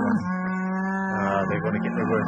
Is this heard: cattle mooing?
yes